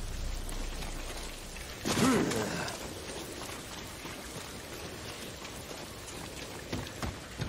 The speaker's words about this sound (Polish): Kurczę, deszcz leje.